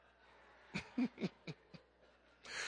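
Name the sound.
loud yawn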